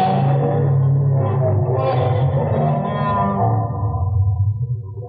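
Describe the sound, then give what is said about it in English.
A person imitates whale speech with one long, loud, drawn-out warbling moan. The voice holds low and steady with slow pitch bends, then tapers slightly toward the end. “Just stop trying to speak whale.”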